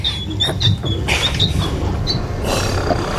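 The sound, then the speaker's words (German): A secret door in a wall slides aside after a rope pull hanging from a large ring is pulled: a heavy panel grinds open with a steady low rumble, overlaid by scattered high, thin creaks and squeaks. It is loud and continuous for about three seconds, with no voices. “Die Wand gleitet zur Seite. Eine Geheimtür.”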